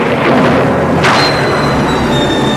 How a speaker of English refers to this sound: Lightning strikes, waves start to roll, but we still don't know any specifics about a typhoon, so I looked it up.